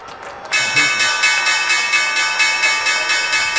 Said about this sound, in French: on va écouter ces applaudissements, François. Oui. C'était à la clôture de Wall Street hier soir.